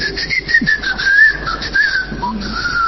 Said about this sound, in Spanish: Esta cosa de tener un chiflido a modo de santo y seña suele ser una costumbre hija de... ¿Hija de quién? De alguna trampa, de alguna situación.